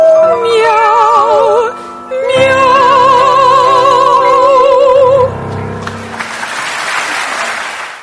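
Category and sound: animal, cat meowing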